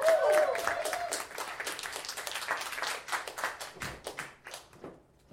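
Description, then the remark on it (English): A crowd at a live show applauds as a performer is introduced, with dense, rapid clapping that starts loud, mixed with a few whoops at the outset, then thins into scattered claps and fades out over several seconds. “put your hands together and make some noise for”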